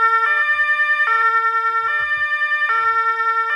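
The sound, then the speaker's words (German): A police siren wails in a steady two-tone pattern, switching between a high and a lower pitch about every second. It stays loud and even throughout, with no voices. “Doch diese ist so laut, dass die Polizei alarmiert wird.”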